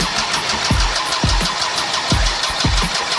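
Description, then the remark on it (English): A diesel motorbike engine is cranked over with slow, heavy, irregular thumps beneath a steady mechanical rattle and hiss, struggling to catch, as black smoke bellows from the exhaust pipe. Fairly loud, with no voices. “Where there's smoke, there's fire in a diesel motor, so we knew we were close.”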